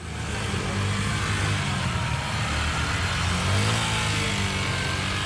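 Several police motorcycle engines, part of a security force of 15 police motorcycles surrounding journalists, rev and rumble together in a loud, continuous roar, the drone rising and falling slightly as they idle and accelerate, with no talking.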